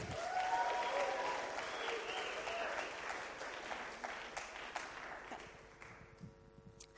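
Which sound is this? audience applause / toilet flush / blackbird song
audience applause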